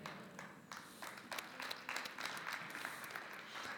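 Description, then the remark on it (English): Scattered, uneven applause from a church audience clapping for God: a thin patter of claps with a few sharper individual hits, steady but lacking energy, with no one speaking over it. “Some of you are clapping like you're not very excited about God.”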